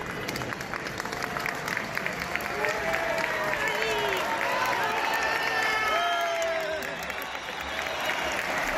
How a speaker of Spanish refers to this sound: Así aplauden a su llegada a los representantes de Bildu, con Laura Aznal a la cabeza. Dejan entrever que la mayoría de los simpatizantes de la formación abertzale están allí, en la plaza.